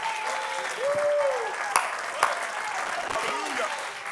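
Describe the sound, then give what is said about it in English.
An audience claps its hands at a preacher's call while repeating the promise the Lord has given them, a steady, dense patter for the whole stretch, with a couple of sharper claps standing out. Several voices call out and murmur over the clapping. “Clap your hands and repeat the promise that the Lord has given unto you.”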